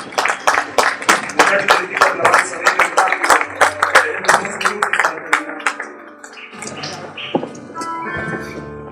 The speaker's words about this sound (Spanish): Ponte de pie, un aplauso bien grande al Señor.